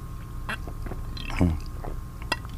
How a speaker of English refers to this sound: I got to stop this tickle in my throat. You know, I should drink some water. I have a bottle of water right here. Let's see if you can pick this up.